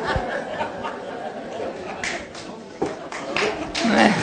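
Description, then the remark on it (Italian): Audience applause for the artist: a steady, dense patter of many hands clapping that swells in a few louder bursts, with scattered chuckles and murmuring voices mixed into the crowd noise. “Quanti applausi il nostro artista.”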